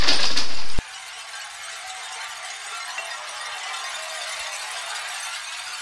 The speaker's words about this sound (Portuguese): Mas, ao fazer isso, escorregou em um pouco de gelo negro no piso de pedra fria e o espelho estilhaçou-se no chão, jogando lascas de vidro para todos os lados, como uma tempestade de diamantes.